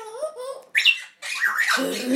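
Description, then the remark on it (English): Three African grey parrots chatter and squawk in overlapping bursts, mixing harmonic, voice-like warbles with sharp rising whistles and raspy calls, moderately loud and continuous over a couple of seconds. “But I'm hoping I'm going to get some parrots, because all three greys are chatting.”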